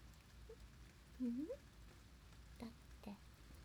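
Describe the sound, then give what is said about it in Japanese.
Soft, steady rain hisses at a low level, with scattered faint drop taps and a brief rising tonal sound near the middle; no clear talking. “ね、よかったらさ、雨が止むまで一緒に過ごさない？”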